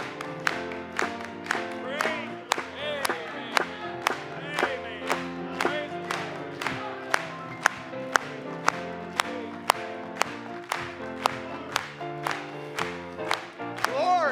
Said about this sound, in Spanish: Vamos a aplaudirle.